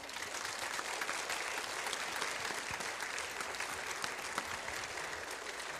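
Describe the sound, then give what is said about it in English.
Steady applause from an audience for their pastors fills the whole stretch, a dense wash of many hands clapping at even loudness with no voices standing out. “So I'd just like to have another round of applause for our pastors.”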